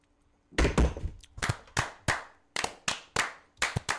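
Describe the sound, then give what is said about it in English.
Glasses are thumped down onto a table as part of a ritual toast, in a rapid series of about ten sharp, heavy knocks, fairly loud, falling into a loose rhythm with no one speaking. “I almost dropped the cannon down upon my mouse here.”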